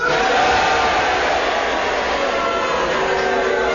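A show audience roars as it votes on a challenge by cheering to agree and booing to disagree, a steady, dense mix of booing and cheering, loud and unbroken for the whole stretch, with no single voice standing out.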